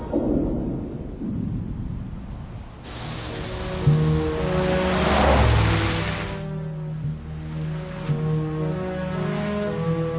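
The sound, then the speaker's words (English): A car drives along with a steady engine drone, its pitch rising and falling as it revs, over a deep rumbling road noise. Nobody speaks. “I'd like to get out of the car now. Stop the car!”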